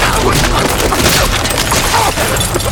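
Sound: gunshot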